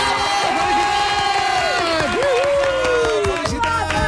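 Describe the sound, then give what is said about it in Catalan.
A large crowd cheers and applauds loudly and continuously at about 6:45 in the evening for Nia San Juan's birthday, with sustained shouts and whoops rising over a dense wash of clapping for the whole stretch. “Quan passa gairebé 3 minuts de 6:45 de la tarda, un aplaudiment molt sonor perquè és la Nia San Juan i perquè és el seu aniversari.”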